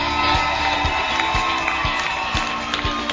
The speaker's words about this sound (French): Est-ce qu'on peut faire du bruit? C'est la clôture du mois de la femme. Il y a de l'ambiance ici, dans cette salle. Est-ce qu'on peut applaudir très très très fort?